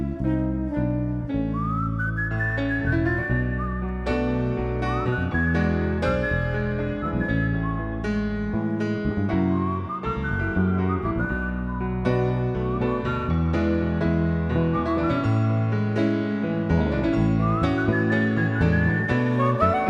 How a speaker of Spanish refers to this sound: y un reo meditabundo va silbando esta canción.